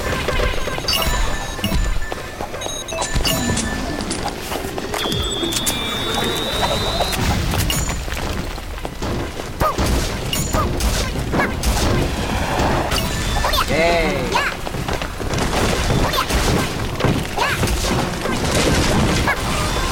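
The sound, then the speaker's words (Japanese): Loud explosions of ships burst one after another in a dense, chaotic barrage, with crashing booms and clattering debris filling the whole stretch almost without pause. “船 が爆発しまくってる”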